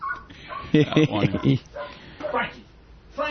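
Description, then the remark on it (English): A dog gives a quick run of about four sharp barks, with people talking around it before and after. “That dog, and I couldn't figure who was.”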